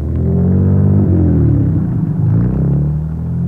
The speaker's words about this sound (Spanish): Estábamos viendo las callejuelas de la antigua Guatemala y de pronto nos encontramos en un camino a la entrada de un pueblito iluminado por una débil luz de amanecer. Un carro sale de la aldea.